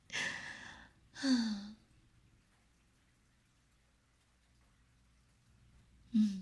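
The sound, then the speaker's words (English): Slow breathing: a pair of soft, airy breaths in quick succession, a long quiet pause, then another breath beginning at the very end. There is no talking. “The sound of your slow breathing is starting to lull me to sleep.”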